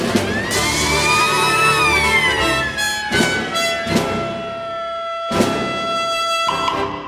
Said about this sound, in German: das war seine sogenannte Bürgerschreckphase, dass das Orchester hinter einem Vorhang spielen soll, weil man sollte nicht sehen, dass da auch Sandbüchsen verwendet werden und am Schluss eine Sirene spielt.